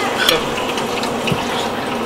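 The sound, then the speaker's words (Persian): Water pours steadily into a container, a continuous splashy rush with a few small clinks and splashes over about two seconds. “من با بشقاب یه ذره آب ریزم بید تقریبا یک اینجور آب توی مشخواب ریختم روی.”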